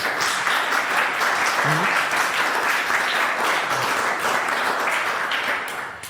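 Steady applause from an audience, a dense wash of many hands clapping at an even loudness for several seconds before starting to fade at the end, with a brief voice faintly underneath.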